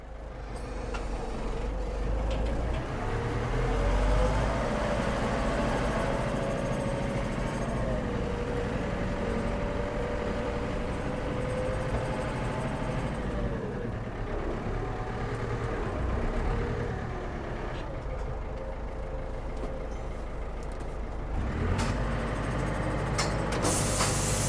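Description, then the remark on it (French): A tractor engine runs steadily on a cattle farm for the whole stretch, a loud, continuous low diesel rumble with a slight shift in tone partway through and no one talking. “Bon, bah, je vais chercher le tracteur.”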